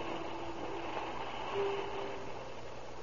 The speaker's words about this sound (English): At 7:45 on the morning of October 19, 1931... train number 3 rolls into the Southern Pacific Station from Phoenix, Arizona.